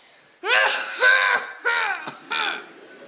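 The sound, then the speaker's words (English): Four harsh, raspy coughs in a row, fairly loud, with short pauses between them and a brief click in the middle; no talking. “Oh, dear. You have a terrible cough.”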